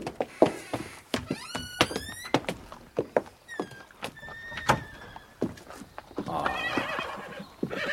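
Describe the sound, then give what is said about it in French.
A horse whinnies several times with rising, wavering calls, amid a steady series of sharp hoof clip-clops on a hard surface, fairly loud, with no talking; the horses are at a carriage. “Mes chevaux, Bertuccio. Ils sont à la voiture, Excellence.”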